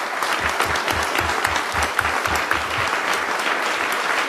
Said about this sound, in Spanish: Sí, merece un aplauso.